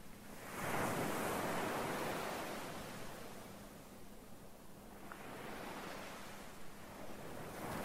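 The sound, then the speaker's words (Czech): Sea waves wash in and out, a broad roaring surge swelling early then easing into a steady hiss of surf, with no voices. “chvíli se zaposlouchejte do zvuku moře.”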